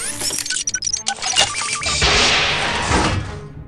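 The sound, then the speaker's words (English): A door being opened: a quick run of metallic clicks, rattles and knocks, then a loud, sustained rushing whoosh that slowly fades. No one speaks. “I'll get the door.”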